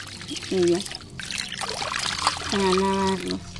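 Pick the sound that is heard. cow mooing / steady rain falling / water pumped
water pumped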